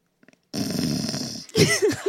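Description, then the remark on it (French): A person imitates snoring: a long, rough, rasping inhale, followed by a few short, wavering voiced snorts and grunts. “C'est très court. Tu ronfles ?”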